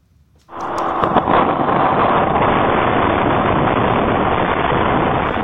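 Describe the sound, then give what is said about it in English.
A loud, steady roar of violent tornado wind in the Houston area of Texas, recorded by a fire engine's camera as firefighters take shelter in a resident's garage. It starts abruptly and keeps blasting without a break, a dense rushing wall of noise with a few sharp knocks early on. “A fire engine's camera captured the moment the firefighters had to take shelter in a resident's garage.”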